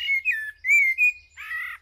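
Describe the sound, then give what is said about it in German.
A songbird sings a short phrase of clear, sliding whistled notes followed by a buzzier, harsher trill, fairly loud with no voices. “Singvögel singen im Schnitt 50 Minuten länger.”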